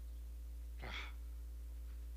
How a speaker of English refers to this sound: Oh, here's a nice one. A yawn when someone is sleepy. A yawn.